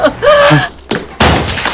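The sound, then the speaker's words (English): A bird strikes a window: a brief voice is followed by a sharp thump and then a loud, noisy burst, like glass being hit hard. “Sounds like a bird hit the window.”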